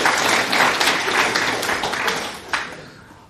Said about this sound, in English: Should we just give them a round of applause? That's worth celebrating, I think.